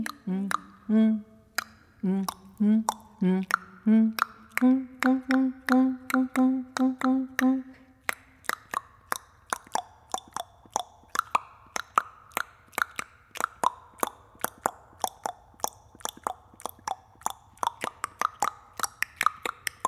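Rhythmic tongue clicks from a vocal ensemble, sharp percussive pops in a fast steady pattern, with sung humming tones underneath early on that give way to denser, quicker clicking.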